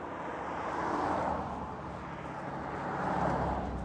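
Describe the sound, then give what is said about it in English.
Loud cars pass by, their broad roaring noise swelling and fading in two waves, with steady traffic rumble filling the gaps and no one speaking. “Why are these cars so goddamn loud?”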